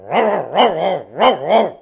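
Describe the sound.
A person imitates how someone barks when meeting a dog, with four quick, loud, voiced woofs in an uneven rhythm, with no other talking.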